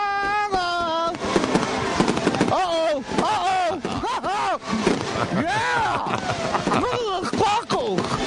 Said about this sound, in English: He likes the sparkles. He enjoys the fireworks. Kaboom! Kaboom!